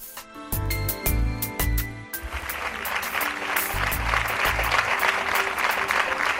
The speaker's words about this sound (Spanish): Sonido del sábado con los aplausos de su equipo de fútbol, el equipo el Honeyball, en el que jugaba Sandra, el Honey. Jugaban contra el Morón ese fin de semana y en ese partido le rindieron su particular homenaje con camisetas